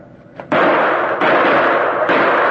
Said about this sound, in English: Shoot the lock off and let's bust in.